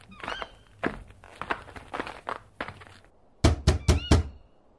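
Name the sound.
knocking on a door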